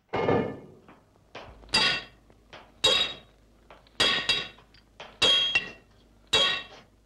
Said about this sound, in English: Could you hear the hammering up top?